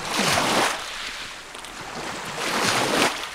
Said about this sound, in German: Am Isniksee im Nordwesten der Türkei rauschen kleine Wellen auf den Strand. Die grauen Kiesel sind mit roten Ziegelresten durchmischt.